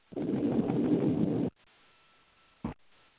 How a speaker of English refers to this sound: See, that's that wind by your car there.